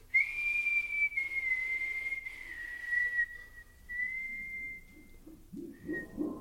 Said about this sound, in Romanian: De fluiera știu să fluier și eu.